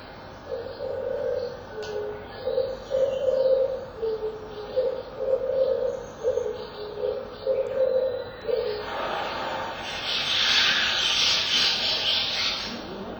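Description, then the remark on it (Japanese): An oriental turtle dove coos in a steady series of low, soft phrases, then stops as a noisy burst of chattering from a flock of starlings takes over near the end. “キジバトの声を録音してから、金星峠に向かう自動車道路を、横切って小峠の方へ登っていきます。”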